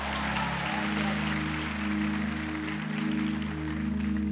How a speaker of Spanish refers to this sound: Y hoy tenemos una gran sorpresa. Después de más de un año, por fin tenemos otra vez con nosotros a una de nuestras predicadoras favoritas. Un aplauso para la hermana